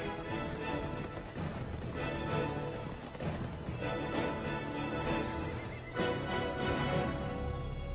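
Horses neighing and whinnying over a dense, steady din of hooves clip-clopping, fairly loud, with a few sharper bursts along the way and no one talking; horses and herds of cattle spreading across North and South America.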